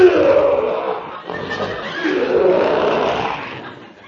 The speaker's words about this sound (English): Wasn't me, fresh guy. That's that lion in that cage over there. Oh. Ferocious-looking beast, ain't he?